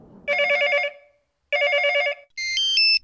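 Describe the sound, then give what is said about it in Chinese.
A phone rings out twice in clear, trilling electronic bursts separated by a short pause during an outgoing call to a friend, followed by a brief, higher-pitched sequence of beeping tones. Loud, with no voices. “嘿，我现在就打个电话给他。”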